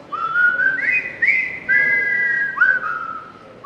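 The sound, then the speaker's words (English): A professional whistler performs a clear, melodic tune, holding long notes and sliding smoothly between pitches, with no talking alongside. “Out of the few billion people in the world, I'm sure, I think half of them can whistle, but to whistle on a professional level, I feel it's an art and it really needs a lot of encouragement.”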